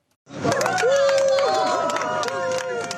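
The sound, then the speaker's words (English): A crowd cheers and applauds outside the European Court of Human Rights as a group of Swiss women hug and cheer to mark their legal victory, with sharp bursts of clapping over a dense wash of excited voices and a few high, sustained whoops rising above the hubbub. “Outside the European Court of Human Rights, celebration and applause.”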